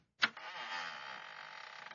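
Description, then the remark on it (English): The door to the North Alaskan Bay Fur Company creaks open with a sharp click, then a long, sustained grinding creak that drones on for nearly two seconds, fairly loud, with no voices. “The last time I heard a door like that was on a tomb.”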